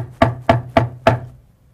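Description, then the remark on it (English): Four firm knocks on a door in a steady, even rhythm, each a sharp thud with a short ringing decay, followed by quiet. No one speaks. “There's a knocking on the door.”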